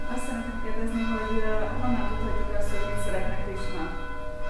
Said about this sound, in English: Is there a bell broken? So, what is it? How come it's just the church opposite the street? For 1 hour they ring the bell. 5 minutes they do.